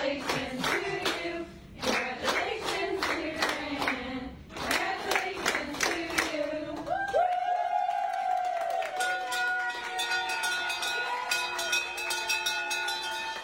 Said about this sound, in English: I love hearing the sound of the bell. It's just like, it's so much more meaningful when you know that story and that backstory of seeing that. It's like, man, we did it. This is a celebration.